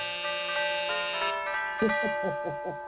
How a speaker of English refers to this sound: The X-Handle place was one of those plush 50-room mansions in Beveridge Hills. I rang the doorbell.